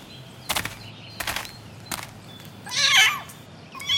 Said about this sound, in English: Listen, what's that? It's a kitten. Aww. Look, it's in the tree.